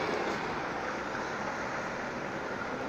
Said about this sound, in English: we've just got a truck going past, so forgive me for the sound here.